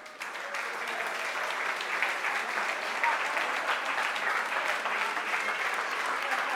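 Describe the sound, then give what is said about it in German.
Sustained applause from an audience at a church service for the fathers, who have been asked to stand up: a dense, even clatter of many hands clapping steadily for several seconds without pause or voices on top. “Juni Gottesdienst ist ja Vatertag und ganz kurz alle Väter hier, steht doch auf, das ist euer Applaus.”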